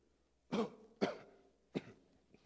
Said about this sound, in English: So then when the devil tries to come and say, here's a cough, what are you going to do?